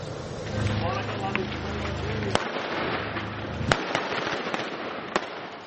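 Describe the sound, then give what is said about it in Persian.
Gunfire exchanged inside a house in western Mosul, Iraq, between Iraqi forces and Islamic State (ISIS) militants hiding there: three loud, sharp shots crack out at irregular intervals over a steady, rushing background, with fainter pops in between and a low droning hum through the first half. “تبادل آتش میان نیروهای عراقی و شبه نظامیان گروه حکومت اسلامی موسوم به داعش که در یکی از خانه‌ها در غرب موصل پنهان شده اند.”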